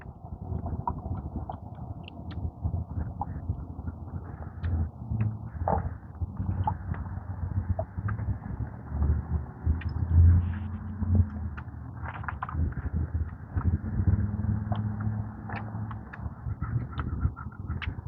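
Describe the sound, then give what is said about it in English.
Crows caw in a few harsh, scattered calls over a steady low rumble of background noise, with no one speaking. “Crows.”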